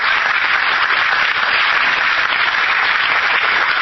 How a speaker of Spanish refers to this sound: También recibimos con aplauso a la subsecretaria del Ministerio de Desarrollo Social, profesora Ana Uribeza.